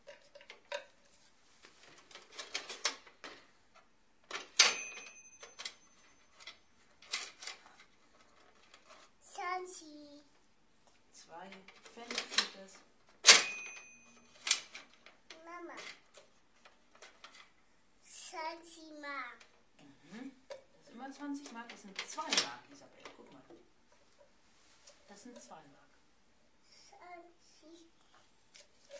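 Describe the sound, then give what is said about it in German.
Coins (Mark and Pfennig) clink and rattle against a toy cash register in scattered bursts as money is paid and put into the till, with two bright ringing tones standing out, while a young child babbles and talks. “In die Kasse rein?”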